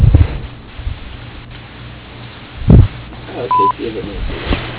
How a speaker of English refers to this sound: Please leave a message at the tone. Thank you.